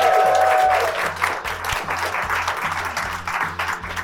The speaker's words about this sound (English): A massive, massive thank you to my live audience. Give yourself a cheers and a round of applause.